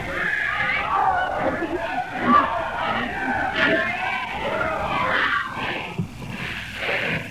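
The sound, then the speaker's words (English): A large crowd fills the air with a dense, continuous babble of many voices, several calling out for quiet over one another, steady and fairly loud throughout without any single clear speaker. “Quiet, everybody saying quiet.”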